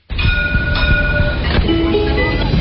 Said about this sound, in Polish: Tramwaj na Teneryfie.